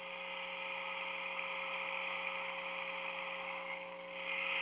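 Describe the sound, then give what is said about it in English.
A rattle about 3 feet long, made of natural materials with pellets inside, is turned upside down and right side up to make the sound of rain: a steady, dense hiss of pellets rattling and pouring, running continuously with a brief dip and swell near the end over a low background hum. In Wisconsin, 2022. “Inside there are some pellets, so that as you turn the rattle upside down and right side up, you're making the sound of rain.”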